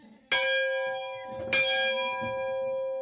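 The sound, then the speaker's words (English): A church bell at the Foxfire Museum in the hills rings out twice, each strike sharp and bright with a long, humming resonance that lingers and overlaps; a faint low murmur sits underneath, with no talking. “There's a wagon house and a church with a bell.”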